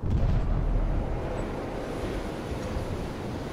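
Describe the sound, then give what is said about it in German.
A heavy underwater seismic airgun blast, air released explosively in an oil company seismic survey, sending sound waves into the seabed to find oil deposits: a deep, muffled boom at the start that rolls into a long, loud low-frequency rumble lasting several seconds, with no voices. “Airguns, also Luftkanonen, lassen explosionsartig Luft entweichen.”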